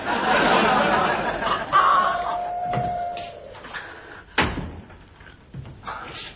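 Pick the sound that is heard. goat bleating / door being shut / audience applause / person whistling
door being shut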